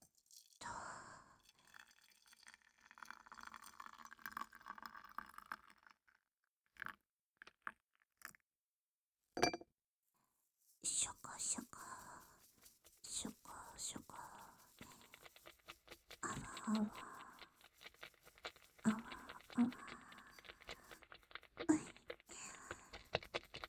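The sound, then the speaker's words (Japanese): Soft, wet squishing and crackly patter from a shaving brush lathering dedicated shaving cream, in uneven bursts with a short pause midway, quiet, with no talking. “まずは、シェービングブラシで専用クリームを泡立てていきます。”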